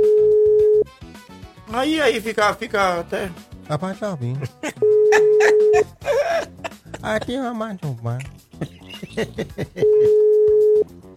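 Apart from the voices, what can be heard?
phone call ringing tone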